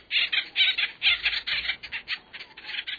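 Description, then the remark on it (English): A rapid series of harsh, raspy acorn woodpecker calls, several overlapping squawks in quick bursts, fairly loud with no talking. “The cartoon Woody was an imp, but the acorn woodpecker is an industrious bird.”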